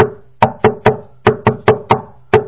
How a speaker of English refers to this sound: If one would knock in a way which has sort of a musical rhythm to it, we'll illustrate the way to knock on the door, which would be also, would be, let's say, something like this.